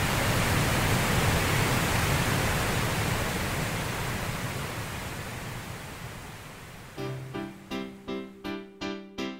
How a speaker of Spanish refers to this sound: el ruido rosa hace una diferencia en las variables que se pueden captar